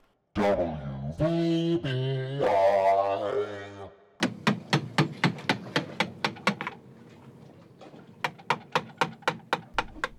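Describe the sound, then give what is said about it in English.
A few seconds of tonal, voice-like humming give way to rapid, evenly spaced hammer blows ringing out on a construction site, pausing briefly and then resuming in another quick burst of strikes. “You know what that sound means? Construction.”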